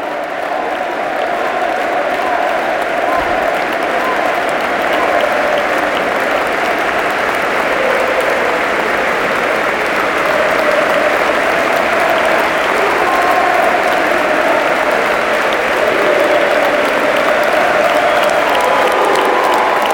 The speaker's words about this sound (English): Really nice moment. He's getting a great ovation.